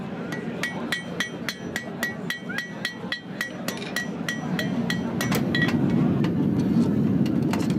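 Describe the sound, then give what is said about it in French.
An itinerant farrier hammers hot iron on an anvil at a mobile forge set up in a truck, in a quick, steady rhythm, about twenty ringing metallic blows, while a low mechanical rumble grows louder in the background. “Du coup, il faut se dépêcher de le travailler. Oui, absolument. C'est le dicton, faut battre le fer tant qu'il est chaud.”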